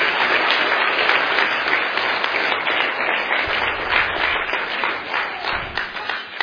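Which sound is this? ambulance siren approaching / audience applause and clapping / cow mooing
audience applause and clapping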